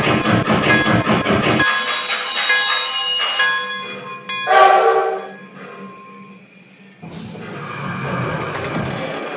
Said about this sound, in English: Well, track one, train number one.